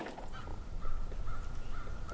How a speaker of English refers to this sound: Crows fly overhead.